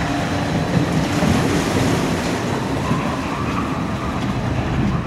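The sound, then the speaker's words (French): A water ride boat at the Nigloland amusement park rushes down a chute into the water: a steady, loud roar of splashing water and mechanical rumble that holds evenly for several seconds, with no voices. “Ça y est, il est à l'eau. Il est prêt à partir et on est prêt à accueillir les visiteurs pour une bonne journée et une bonne saison.”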